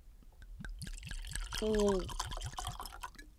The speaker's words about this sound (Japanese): だから今日は 印象深いね、 スモモのお酒、起用を飲みましょう。 ということで、あるんだけど、 ね、はい、ね、用意しました。じゃあ早速つぎ ましょう。はい、静かにしててね。